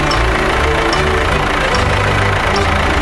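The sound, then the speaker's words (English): A voice imitates a tractor engine in a song about farming, a loud, steady idling rumble that chugs along without a break for about three seconds, with no words spoken. “I drive around on a tractor, and it goes...”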